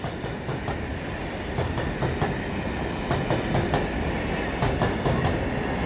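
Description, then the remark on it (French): A suburban train rumbles steadily along the tracks, its wheels clattering in a regular clickety-clack rhythm over the rail joints, continuous, with no voices. “Une vie au rite très particulier régnait dans les trains de banlieue.”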